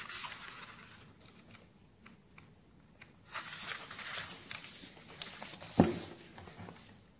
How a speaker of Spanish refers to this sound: Cae la lluvia fina sobre la tierra.